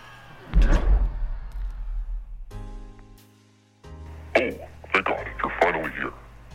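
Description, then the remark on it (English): A giant, heavy red door to the boss's office opens with a low rumbling thud and a sustained droning groan, followed by indistinct voices. “Of course he would have that giant red door.”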